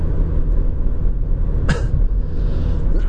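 A single sharp, fairly loud cough, a lingering cough left from a cold, bursts out partway through over a steady low rumbling background hum while the speaker drives a car toward a stoplight. No one speaks.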